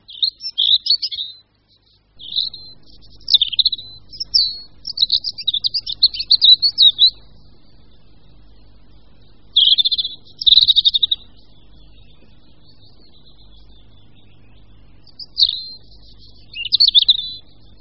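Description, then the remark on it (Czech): A European robin sings in clear, warbling phrases of high, thin notes, broken by pauses, with a low rumble of background noise underneath and no voices. “Červenkou se u nás můžeme setkat ku podivu i v zimě a zvlášť pokud leží sníh, tak červenka na něm vypadá doslova dekorativně.”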